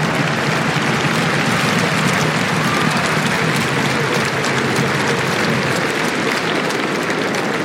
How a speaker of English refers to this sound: Vous pouvez l'applaudir, mesdames et messieurs.